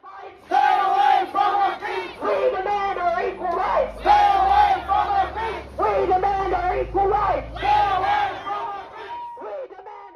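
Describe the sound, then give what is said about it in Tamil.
More than 200 protesters, amid a heavy police presence, chant loudly in unison outside the chambers of a local council meeting in Merrylands, protesting a ban on same-sex parent children's books in council libraries. They repeat a short rhythmic phrase every couple of seconds, the massed voices rising and falling before trailing off at the end. “பலத்த காவல்துறை பிரசன்னத்திற்கு மத்தியில் 200க்கும் மேற்பட்ட ஆர்ப்பாட்டக்காரர்கள் மெரிலான்சில் உள்ளூர் கவுன்சில் கூட்டம் நடைபெற்ற அறைகளுக்கு வெளியே கூடினர்.”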